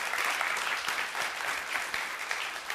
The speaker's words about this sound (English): That's why I have allowed us to change our entire Sunday morning service today and make them the point of this service, because they are important to God and they are important to us. Can we clap our hands for these young people?